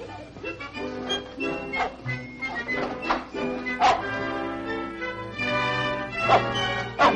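A dog barks in scattered, sharp bursts and whimpers in between, fairly close and moderately loud, over a steady tonal background.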